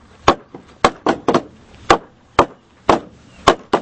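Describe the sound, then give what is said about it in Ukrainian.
Homemade wooden Easter mallets (tovkachi) in the village of Dibrova, used before Easter, knock about ten times in an uneven rhythm. Each strike is a sharp, loud, hollow clack with a short ringing tail, and some hits come in quick pairs. No one speaks. “Товкачі – це саморобні дерев'яні молотки.”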